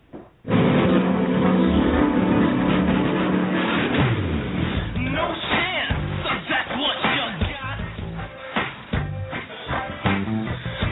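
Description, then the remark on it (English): A steady engine roar from cars, motorcycles and trucks driving by outside the building, loud at first and then mixed with people talking over the continuing road noise. “Now, because you had to have that cigarette sitting right there inside of my studio, we have the pleasure of listening to all the cars drive by the building. Motorcycles, trucks.”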